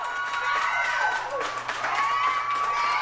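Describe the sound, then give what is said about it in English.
A small crowd at Hairworks Salon in Denver's Five Points neighborhood cheers and claps steadily during Barack Obama's historic speech, with scattered whoops and excited voices rising and falling over a dense wash of applause throughout. “86,000 people or somewhere around there jammed into Mile High Stadium, but in much smaller venues across the country they were cheering too.”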